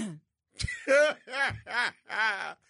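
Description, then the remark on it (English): A person clears their throat several times in a row, a rough catch followed by a few voiced, rasping bursts, fairly loud with no talking. “Let me clear my throat.”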